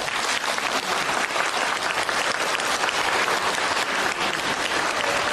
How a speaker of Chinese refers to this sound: 鼓掌。